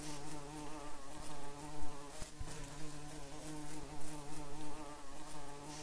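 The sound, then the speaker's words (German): A steady, dense hum of many honeybees buzzing, a continuous droning drone with slight rises and dips in loudness, with no voices present. “Das machen die Tankwartbienen. Sie bringen den erschöpften Bienen Honig.”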